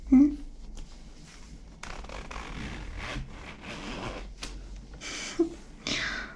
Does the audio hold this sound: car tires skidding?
no